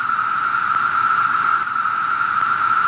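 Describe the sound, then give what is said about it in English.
A male cicada's loud, steady humming buzz drones on without a break, a dense noisy whine that holds the same pitch and level throughout, with no voices. “Usually, male cicadas will let out a loud humming sound. I can replay this if you're interested. This is what a male cicada might sound like.”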